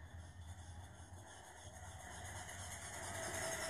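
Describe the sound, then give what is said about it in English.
A small vibrator toy motor hums steadily, a low droning buzz layered with a rough, rattly high-end whir that grows slightly louder over the few seconds, with no one talking. “You can hear like the hum from the motor.”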